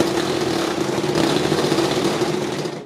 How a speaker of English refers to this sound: The red tremor shaker motor. You're finally upgraded.